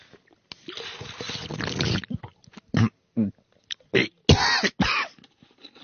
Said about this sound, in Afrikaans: Ah, oh, dis nogal 'n hoesie wat jy daar het, jongen.